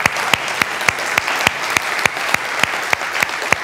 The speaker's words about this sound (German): Und wenn du heute das erste Mal hier bist, wollen wir dich auch noch mal ganz herzlich mit einem Applaus willkommen heißen.